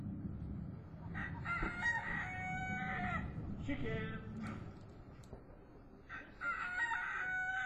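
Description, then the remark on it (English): A rooster crows loudly and repeatedly with long, strained calls, while hens cluck in the background over a steady low outdoor rumble, in the garden behind Cruddock Hall. “Chickens!”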